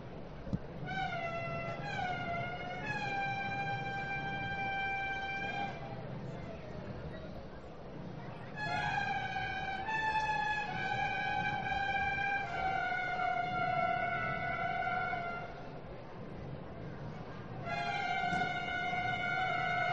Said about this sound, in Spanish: Sí, ahora parece que se disponen también a ir a tocar, ¿no?, la bocina otra vez. Sí, van a tocar otra vez ese sonido, sí, sonido ancestral. Sí, ya empieza. Vamos a oírlas.